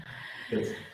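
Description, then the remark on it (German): A sleeping female dog snores once: a short, soft rumbling breath rising out of a quiet background and fading after a moment. “Aber ich glaube, nachdem ich sie das erste Mal auf dem Schoß hatte, quäkt sie, also pennt sie hier rum und ist am Schnarchen.”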